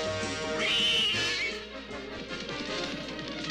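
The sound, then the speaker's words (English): A single high, drawn-out cat meow rises and falls early on, heard over a busy cartoon soundtrack of music and effects that continues after it fades. “It was the unfortunate cat.”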